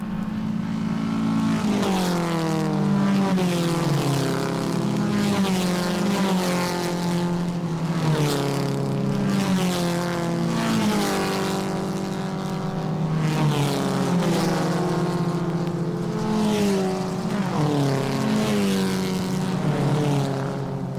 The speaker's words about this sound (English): Here is another example of the Doppler effect, racing cars.